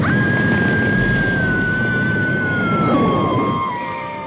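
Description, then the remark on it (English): A loud emergency siren wails steadily over dense background noise in a staged disaster simulation as the lights go out, its pitch slowly dropping, then fading somewhat near the end. No voices are heard. “The lights would go out and the sirens would start going off and they would know, like, okay, we have to react.”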